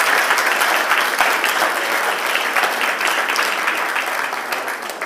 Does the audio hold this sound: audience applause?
yes